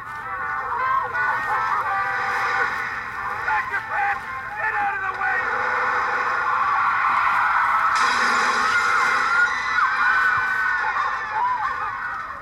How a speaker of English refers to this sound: Now, you can see that the car drove through the crowd, scattering people and pets in all directions.